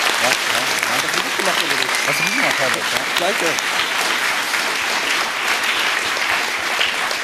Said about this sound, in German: Vielen, vielen Dank an alle Helfer, an alle Teams, die das gemacht haben. Applaus, Applaus bitte, ja.